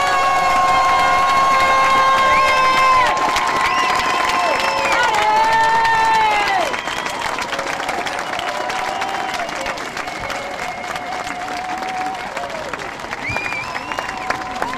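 A large crowd gives a minute of applause for the injured, clapping and cheering steadily, with whistles and shrill horn-like tones ringing over the dense applause, loud at first and easing slightly after a few seconds.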